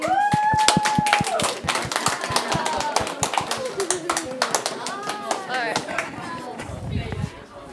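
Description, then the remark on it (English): A crowd claps in a quick, uneven patter of sharp slaps for several seconds while voices cheer and call out over it, applauding a school club's team for the school year. The clapping thins out and stops near the end. “So can we give a hand of applause for everyone?”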